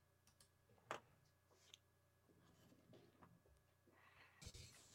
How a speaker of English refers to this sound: Sorry, just clicking the wrong button there in the wrong program.